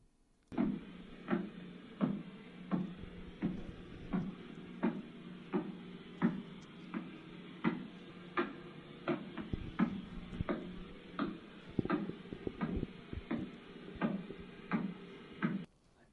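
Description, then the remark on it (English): Pulsar radio signal converted to sound, from the pulsar that Jocelyn Bell heard: a steady train of sharp, regular thumping pulses over a constant band of static hiss, with no voices, running evenly throughout. “We'll conclude our first session tonight by having you listen to some pulsars.”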